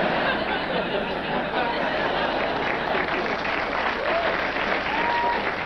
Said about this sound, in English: that applause came in, I think, because this joke depends on what you call a twist